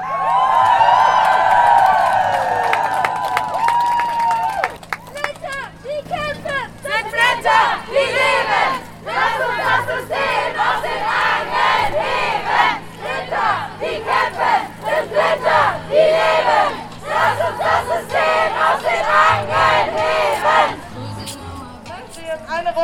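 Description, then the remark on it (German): A crowd shouts together at a Walpurgis Night street demonstration, venting anger at capitalism and patriarchy. Many voices yell and whoop in loud, ragged bursts, with a sustained high cry at the start and rough chanting swelling and dipping throughout. “Laut mit euch schreien, lasst alles raus, eure ganze Wut auf den Kapitalismus, das Patriarchat und all diese Scheiße.”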